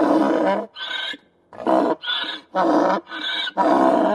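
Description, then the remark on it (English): A donkey in a rural town in Nevada, whose braying kept neighbors awake, brays loudly and alone, repeating a rhythmic hee-haw: harsh, rasping low honks alternate with higher, wheezy squeals over several cycles with brief gasps between. “She heard our report on a rural town in Nevada where a judge ruled that this braying donkey that kept neighbors awake was a nuisance.”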